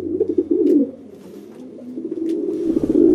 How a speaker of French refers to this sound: Il y a les pigeons des villes, cauchemar des automobilistes garés sous les arbres, un peu gras, un peu ébouriffés, avec une démarche étrange et un roucoulement bien reconnaissable.